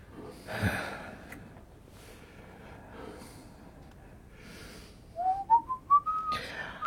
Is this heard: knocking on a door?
no